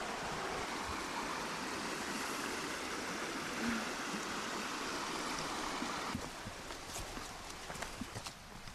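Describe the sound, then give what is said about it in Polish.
A stream rushes and murmurs in a steady, full wash of water, at a spot where horses come to drink. Toward the end the flow softens slightly, and a few brief knocks or splashes break through. “Ale ładnie szumi, nie?”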